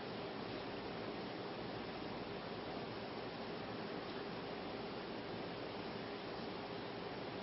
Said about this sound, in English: Down here at the base of the mount, you'll recall from Judges chapter 7, it speaks of the Harod Spring. And this is the brook where Gideon's band of 300 was selected.